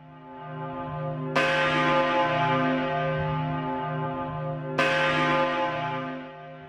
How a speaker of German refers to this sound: Die Glocken im Turm gelten als die größten Polens und die drittgrößten Europas.